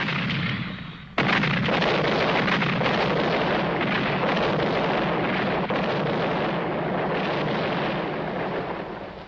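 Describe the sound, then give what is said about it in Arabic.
A sustained, loud roar of battlefield noise with heavy booming artillery fire. It begins with a sudden blast about a second in, then rumbles on continuously with dense crackling and thudding, without voices. “إن هذه الحرب هي حرب مدفعية وليست حرب فرسان.”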